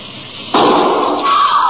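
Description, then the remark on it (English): The door of a passenger coach on a moving train bangs open partway through, and the quiet background rumble jumps into a loud, steady rush of rolling-train noise that carries on to the end. “And then the door opened again.”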